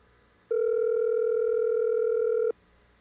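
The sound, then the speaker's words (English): A single steady ringback tone from a phone line while calling a man back, one clear two-second ring in the earpiece before falling silent, with a faint background hiss and no voices. “Just let it keep ringing, see.”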